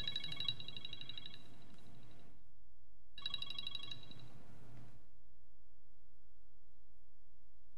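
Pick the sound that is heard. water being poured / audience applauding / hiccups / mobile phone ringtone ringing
mobile phone ringtone ringing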